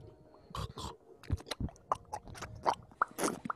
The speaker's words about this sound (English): can you stop slurping right now?